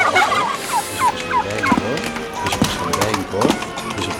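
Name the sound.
turkey gobbling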